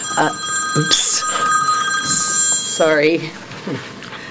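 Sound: mobile phone ringing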